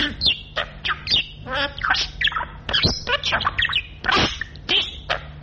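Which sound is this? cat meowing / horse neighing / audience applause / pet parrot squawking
pet parrot squawking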